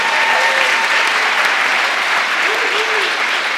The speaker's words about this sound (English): So we've heard, you can clap on that. That is amazing, right?